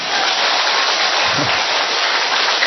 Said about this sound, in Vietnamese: À, thế mới hay thì phải cho một tràng pháo tay.